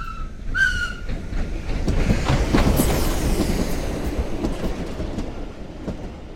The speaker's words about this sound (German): Die Menschen sind furchtbar gescheit. Sie können Autos bauen. Eisenbahnen.